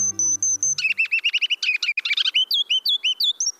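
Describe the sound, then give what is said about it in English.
A ruby-crowned kinglet sings a rapid, bright run of high, thin notes that speed into a warbling tumble of repeated chirps, clear with no one talking. “Most of the time, a ruby-crowned kinglet is a fraud with feathers, neither ruby nor regal.”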